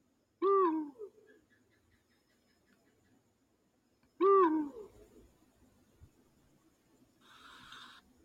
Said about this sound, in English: Guys, stop, listen up, this, it was an owl.